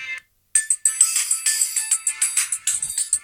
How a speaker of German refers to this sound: Das ist der Klingelton von Windows Phone 7, der Absprung heisst.